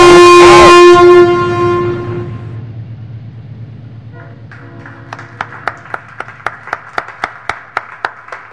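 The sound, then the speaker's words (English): A loud, blaring horn opens, then fades into a low, steady rumble. Soon a sharp, evenly spaced clacking starts and quickens, like a train approaching on the tracks. “There's a train Hello? Coming.”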